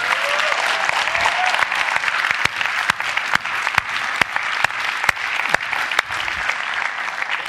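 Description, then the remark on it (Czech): A crowd claps steadily and loudly, a dense wash of many hands with a few sharp accented claps standing out, sustained throughout with no one speaking. “Tak já myslím, že to si zaslouží opravdu ještě jeden pořádný potlesk.”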